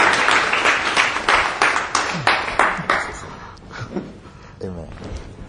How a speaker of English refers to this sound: Can you clap for him